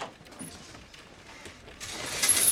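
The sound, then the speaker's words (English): A room door handle rattles and clicks with faint mechanical scraping, then the door swings open and a broad, louder wash of noise from a room full of people gathered for bingo floods in for the last second. “Jojo opens Robert's door.”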